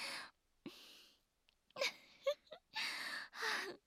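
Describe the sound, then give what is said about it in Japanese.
Heavy, ragged breathing, about six airy inhales and exhales in an uneven rhythm, some tinged with faint moaning tones. No speech. “息遣いが荒くなってる。”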